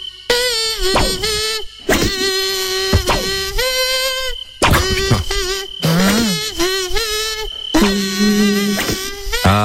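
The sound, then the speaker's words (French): A whiny, mosquito-like buzz hums a melody in several loud, sustained phrases with short breaks, sounding like a voice or kazoo imitating a mosquito singing a song for game show contestants to guess. “Nous c'est … qui chante le casou.”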